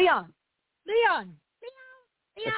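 cat meowing

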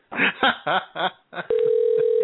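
telephone ringing

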